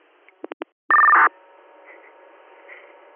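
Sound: radio dispatch alert tones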